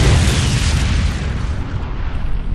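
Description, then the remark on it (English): A loud explosion of gasoline and a motorbike, set off when sprayed fuel met the hot exhaust, bursts out with a deep boom, then rolls on as a heavy, sustained rumble that slowly thins over a couple of seconds. No voices are heard. “The explosion was cataclysmic, beginning with a spark of infinitely bright white light that centered on Kruger's two-wheel wag.”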